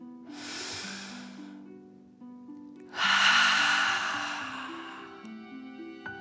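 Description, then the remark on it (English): A deep, airy breath drawn in through the nose, filling the belly, then after a pause a longer, louder breath pushed out through the mouth, both breathy over soft, steady background music; a relaxing deep breath taken before a children's story. “Breathe in through your nose, filling up your belly, and then out through your mouth, imagining you are breathing fire.”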